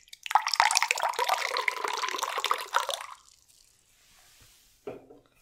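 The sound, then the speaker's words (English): Peach raspberry black tea is poured steadily into a glass for about three seconds, a splashy liquid stream that stops abruptly, followed by quiet and a faint knock near the end. “Very smooth. Pour it into our alum's gauntlet.”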